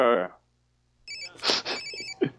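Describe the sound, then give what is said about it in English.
A brief voice speaks, then after a short silence a telephone starts ringing with a bright, trilling electronic tone, and voices talk loudly over the ring. “But a ringing phone has to be answered, doesn't it?”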